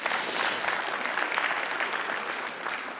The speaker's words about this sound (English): Sorry. About the clapping and everything. I'm sorry about all that.